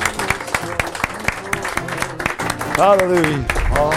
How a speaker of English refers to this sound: How many loves the Lord today? Can we give him another hand clap of praise and worship?